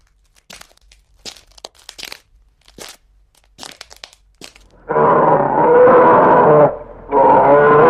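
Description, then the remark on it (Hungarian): A few scattered crunches and cracks, then an old, tame bear growls loudly in two long, rough bursts separated by a brief pause. “Isten, egy medve!”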